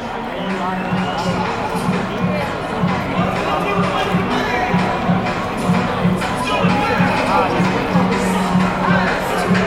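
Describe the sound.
A large stadium crowd at a women's football cup final roars and cheers continuously at halftime, hyped by a hype duo with Mexican waves and sing-alongs, with a steady rhythmic thumping beneath the dense wash of voices, loud and sustained throughout.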